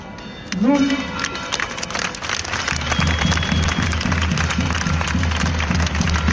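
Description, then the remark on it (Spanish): A protest crowd against Israel's actions in Gaza bangs pots and pans (a cacerolada) in a dense, continuous metallic clatter, loud and steady throughout, with a rising shouted voice near the start and crowd noise underneath. “Así, con una cacerolada, banderas, pancartas y la lectura de un manifiesto que grita alto y claro a los que no quieren decirlo abiertamente, han dicho: esto es un genocidio.”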